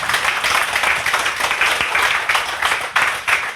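Sustained applause from an audience, a dense, steady crackle of many hands clapping at once with no voices over it, holding fairly loud for the whole few seconds.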